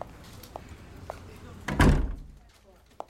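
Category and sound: household object, door being closed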